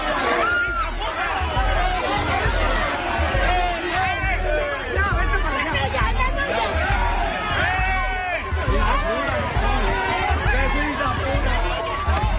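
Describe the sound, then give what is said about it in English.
A large crowd of pro-secessionist voters in Catalonia shouts and chants "occupation forces get out" together, many voices overlapping in a dense, steady roar that stays loud and continuous throughout, with no single speaker standing out. “That chant from the crowds, from the pro-secessionist voters, is occupation forces get out.”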